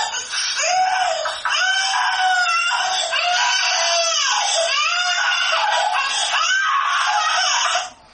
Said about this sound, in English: The cry actually, the volume goes up as the baby realizes mom's right there on the other side of the door. I'm crying for mom. Mom cues that she's there, and that makes me more upset.